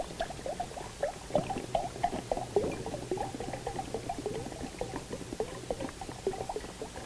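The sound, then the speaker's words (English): Water pours steadily into a container for several seconds, a continuous gurgle and splash with bubbly, irregular plops. No one speaks over it. “All right, I'm pouring the water into the container.”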